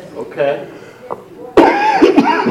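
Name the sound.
cough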